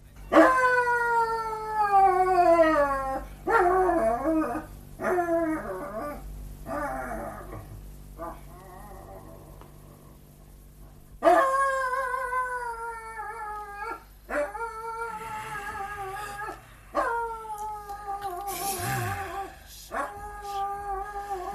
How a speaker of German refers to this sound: Ah, eine Unverschämtheit ist das, einen Hund in der Nacht so bellen zu lassen.